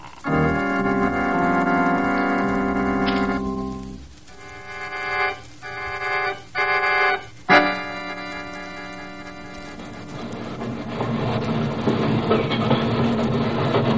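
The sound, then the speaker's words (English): A train slowing down as it reaches the Carlsbad yards: a loud, sustained whining tone gives way to a few short, sharp bursts, then a steady rumble with rhythmic wheel clacking. No one speaks. “The train is slowing down”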